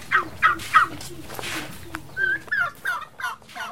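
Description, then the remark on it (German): Turkeys kept on a small farm plot of less than one hectare, alongside chickens, gobble in a rapid series of warbling bursts, moderately loud, with several birds overlapping in quick succession. “Auf einem Grundstück von weniger als einer Hektar Fläche züchtet Lucilia Ulis einige Hühner und Truthähne und baut tropische Früchte an.”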